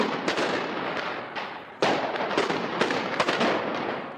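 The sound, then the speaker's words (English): Israeli troops fire tear gas canisters and rubber bullets to disperse demonstrators at the Israeli border with the Gaza Strip: a string of sharp, irregular bangs and pops, one louder blast standing out, over a steady rushing roar of background noise. “Soldiers fired tear gas and rubber bullets to disperse the crowds, and snipers used live ammunition to prevent a breach of the border fence.”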